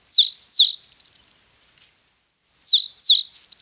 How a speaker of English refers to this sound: Well, and I'll share a little bit more about this bird later in the program,